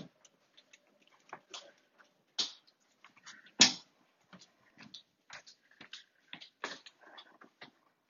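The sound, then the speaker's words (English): A dog being let outside: scattered clicks, knocks and shuffling movement, with a sharp door-like bang midway and a few soft dog noises, with no talking. “Excuse me, let my dog out.”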